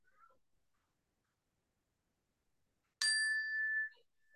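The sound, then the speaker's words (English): A single meditation bell is struck sharply at the start of a meditation sitting, after a stretch of near silence, its clear ringing tone holding for about a second before fading away, with no talking. “You can enjoy the sound of the bell as it fades.”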